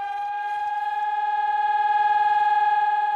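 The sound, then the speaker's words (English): A loud, steady municipal civil defense siren in the Czech Republic, sounding in its monthly test at noon on the first Wednesday, holds one sustained wailing tone with rich harmonics, pulsing slightly as it sounds alone for several seconds, with no voices. “The sound of sirens being tested at noon on the first Wednesday of every month will be familiar to anybody living in Prague or other Czech cities and towns.”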